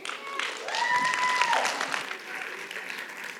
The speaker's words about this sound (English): Thank y'all that I planted out in the group for clapping. I appreciate you doing what I ask you to do.